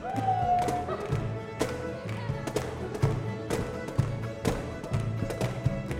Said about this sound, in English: basement rehearsal rooms have you been in that literally shake with the pounding steps of 10 flatfoot dancers